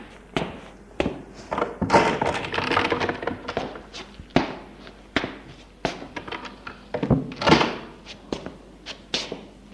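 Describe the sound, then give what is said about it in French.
A door being opened in a basement at the bottom of a steep, damp staircase: a run of sharp wooden clunks and knocks, with rattling handling noise swelling in two bursts, and no voices. “En bas, il ouvre une porte.”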